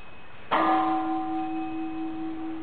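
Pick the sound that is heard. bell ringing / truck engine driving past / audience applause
bell ringing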